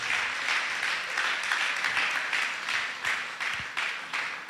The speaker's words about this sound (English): Thank you, worship team. Thank you very much. God bless you. Wonderful. Let's clap our hands and appreciate them for